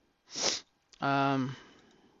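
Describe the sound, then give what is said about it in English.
One sharp sniff through the nose from a person with bad allergies, followed after a brief pause by a short voiced hum from the same person, with quiet room tone afterward. “I have a lot of allergies going on right now, like really, really bad allergies. So I'll try not to sneeze, and I'll try to edit it out if I do sneeze, but there might be some noises that you don't want to hear.”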